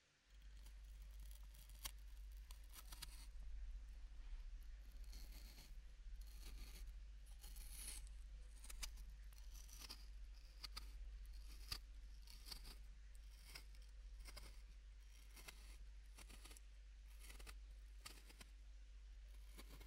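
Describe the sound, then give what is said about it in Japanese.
May Queen potatoes being peeled with a kitchen knife: a steady run of crisp, scraping strokes, each a short bright rasp, repeating irregularly for the whole stretch over a constant low hum, with no talking. “と言いますのは、他の方のリクエストにメイクインのじゃがいもを剥くととってもいい音がするというリークがあったからです。”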